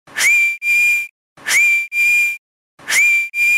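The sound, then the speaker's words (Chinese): Three loud whistles in steady succession, each a rising two-part blast with a brief gap in the middle and short pauses between them, no voices present. A child at the seashore blows them just after sunrise, after throwing a pair of scissors into the sea. “呢、这个小朋友就即刻攞住嗰把神奇铰剪，走到去海边，将把铰剪掉入大海里边，连吹三次口哨。”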